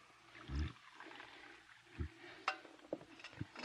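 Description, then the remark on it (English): Black coffee is poured and splashes over as it is spilled, a quiet gurgling trickle broken by a few soft clunks and drips, with no voices. “Look out, you're spilling the coffee.”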